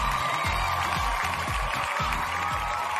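An audience claps and cheers steadily, a dense wash of applause with whoops on top, while a low, rhythmic bass thump pulses underneath about every half second.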